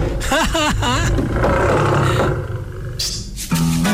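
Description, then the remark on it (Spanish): A loud roar with a wavering, growly pitch, apparently voiced by a person as the character Torongo Tortugo, over a steady rushing noise that briefly drops away before a final short low tone. “Uy, vino muy rugidor hoy.”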